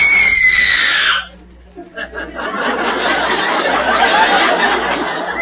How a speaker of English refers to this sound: She's a professional screamer, you know. So the police offer a professional screamer? Oh, yes. She's one of the best screamers on the radio.